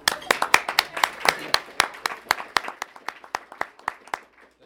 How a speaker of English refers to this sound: She's like, reflect that applause in your tip.